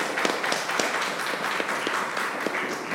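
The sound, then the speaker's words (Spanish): An audience applauding themselves at a show, a dense, steady patter of many hands clapping at once with a few sharper individual claps standing out, sustained at a fairly even loudness throughout. “Un aplauso para ustedes, a ver cómo suenan.”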